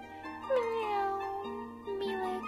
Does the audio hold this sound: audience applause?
no